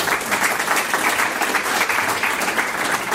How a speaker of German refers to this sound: Applaus vom Publikum.